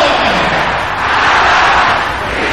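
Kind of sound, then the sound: crowd, audience shouting loudly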